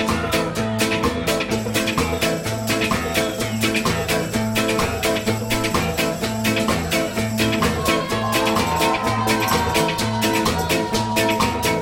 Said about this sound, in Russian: вообще наша группа, конечно, бы украсила любую даже рейв-тусовку. Вот так мы можем играть очень долго.